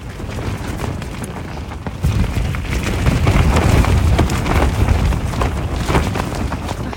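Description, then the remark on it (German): Heavy storm rain and gusting wind roar without pause at night, a dense rumbling wash of noise that swells louder after the first two seconds, with scattered sharper bursts and patters. “Ich spiele euch mal vor, bei welchem Sound ich dann irgendwann versuchen musste zu schlafen.”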